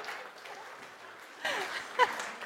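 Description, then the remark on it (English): A church group applauds the children after their performance, a soft wash of scattered clapping that swells a little partway through, with a brief sharper burst near the end and faint voices mixed in. “You need to give them a round of applause.”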